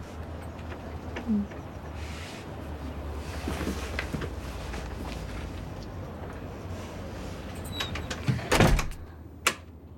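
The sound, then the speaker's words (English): A glass-paned door swings shut near the end with a short rattling thud and a brief knock after, over a steady low room hum with no one talking. “As she closes the door, she places her palm against the glass pane and touches her hair.”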